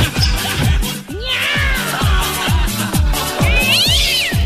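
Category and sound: animal, cat meowing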